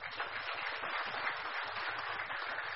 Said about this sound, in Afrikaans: Kom ons geef hom aan 'n klap.